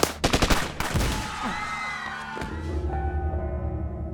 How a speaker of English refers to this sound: The gunshots went off like firecrackers.